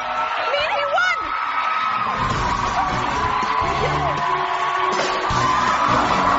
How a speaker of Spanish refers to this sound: Bueno, feliz y contenta, una mujer. Y alrededor, muchos gritos, muchos aplausos, vítores. Es un programa de televisión. El momento que acabas de escuchar es la final del concurso de pérdida de peso de Biggest Loser.